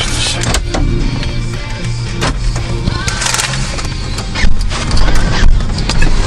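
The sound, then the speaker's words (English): Car doors open with several sharp mechanical clicks and clunks, scattered unevenly over a steady low rumble like an idling engine. No one speaks. “Now you're opening both doors, Grandpa?”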